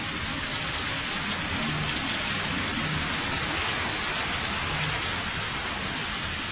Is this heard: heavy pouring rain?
yes